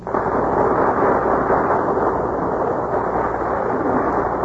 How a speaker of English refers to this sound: That burst of applause is for our stars who are taking their places before the Gulf microphone.